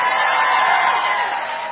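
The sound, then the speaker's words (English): An audience at Ballantyne cheering together as the scripture line 'see, I am doing a new thing' is read, a sustained, dense wash of voices at steady loudness, tapering slightly toward the end of the short burst. “But here at Ballantyne, when I was trying to read my scripture, and I only got that far, and I said, see, I am doing a new thing, and they start cheering.”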